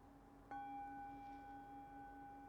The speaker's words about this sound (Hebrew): אז עוד פעם אני אצלצל בפעמון.